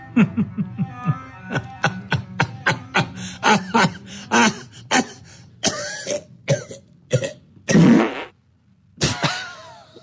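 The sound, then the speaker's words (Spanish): Rapid, rhythmic bursts of laughter break into a run of harsh coughs, ending with a loud, low rasping burst and a few more coughs. No talking, just these sounds. “Llega uno a una edad en la que las carcajadas se convierten en tos.”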